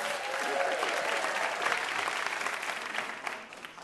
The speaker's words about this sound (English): And one more big round of applause for our VIP, Kelly Goff.